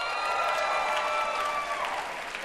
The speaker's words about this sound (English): Laura, I don't think Ed is the only person they're cheering for.